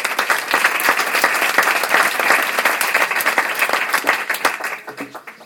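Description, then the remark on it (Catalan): A room full of people applauds steadily to welcome a speaker, a dense wash of many hands clapping that holds strong before thinning slightly toward the end. “Gràcies, un fort aplaudiment.”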